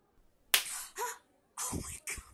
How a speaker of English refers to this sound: Because slapping me on the ass is really inconspicuous, right?